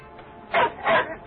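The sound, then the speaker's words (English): A dog barks three times in quick succession, short sharp yelps spaced evenly apart, moderately loud over a low background hiss. “what is he barking at?”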